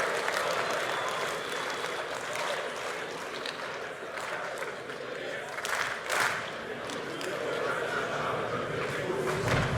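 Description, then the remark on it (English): An audience claps continuously for about ten seconds, a dense, steady wash of many hands with a few louder bursts and faint crowd noise mixed in. “If you want the examination, then clap your hands.”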